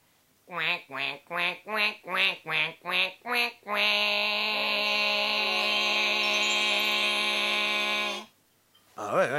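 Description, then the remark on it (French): A person imitates a duck: a rapid series of about eight loud, nasal quacks, then one long drawn-out quack held for several seconds. “Arrêtez, bon, attendez, je vais mettre fin à ce que j'oserais appeler un conflit de canards!”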